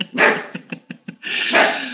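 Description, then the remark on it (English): A dog barks excitedly at someone riding a bicycle past the house, with a long harsh bark, a quick burst of short yaps, then another sustained loud bark, no other voices. “Someone is having the nerve to ride a bicycle past my house right now. Can you believe that? My dog can't.”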